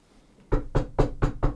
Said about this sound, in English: Rap on the door.